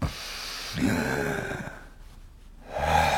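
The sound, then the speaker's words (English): Two deep, breathy draws of air, fairly loud, separated by a quiet pause: a man taking slow full breaths on request while a doctor listens to his chest. No one speaks. “It's a pleasure to hear your hearty breathing.”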